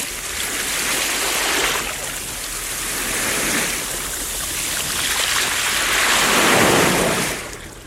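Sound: ocean waves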